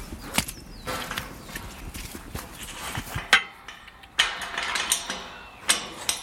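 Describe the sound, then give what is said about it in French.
A door being opened into an enclosed, walled release area for crows, with a series of sharp mechanical clicks, rattles and wooden knocks spread unevenly over several seconds, moderately loud and with no voices. “La porte qu'on vient d'ouvrir ne doit pas forcément beaucoup influencer les corbeaux, où sommes-nous ?”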